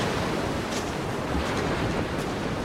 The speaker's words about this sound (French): Il y a l'océan et les vagues qui sont de plus en plus fortes, la mer qui se forme, l'écume sur la mer, sur le bord, sur le rivage.